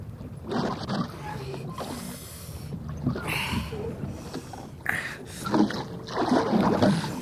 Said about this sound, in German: Und nun ruderten sie in einem weiten Bogen um die Insel herum